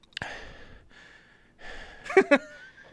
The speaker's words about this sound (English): Attribute the heavy breathing to just pounding an energy drink and the panic.